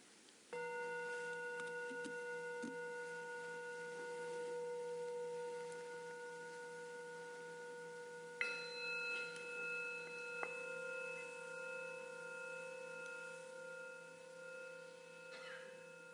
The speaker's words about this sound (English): And there are the sound of the bells.